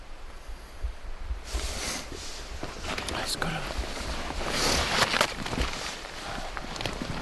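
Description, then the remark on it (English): Footsteps push through brush and leaves as someone steps back through trees to a trail, a steady walking rhythm of crunches and rustles over several seconds, with no one speaking. “I step back through the tree.”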